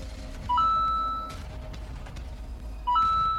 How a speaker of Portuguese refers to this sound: Para de apitar, telefone.